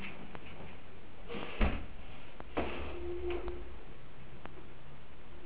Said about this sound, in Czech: A teď si představte tuto situaci. Bez klepání do ordinace se otvírají dveře.